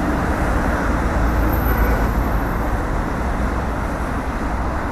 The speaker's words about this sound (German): Um dies mal akustisch darzustellen, hören wir hier erst einmal normalen Verkehr.